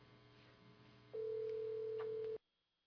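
signal or alarm, telephone ringing

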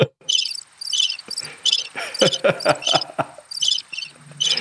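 insect, crickets chirping

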